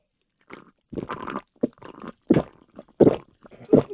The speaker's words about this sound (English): Does everybody hear that? It's the burning of her esophagus. I love it. She guzzles it. She gulps it. Like, to say that an 8-ounce can even stands a chance of making it more than 2 minutes is ridiculous.